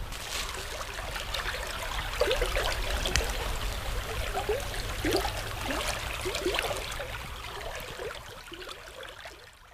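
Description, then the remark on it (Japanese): Clear water runs steadily along a small irrigation channel in Sakuta, Japan, a continuous babble with bright little splashes and gurgles throughout, and no voices over it. “この清らかな水の音をちょっと聞いてください。”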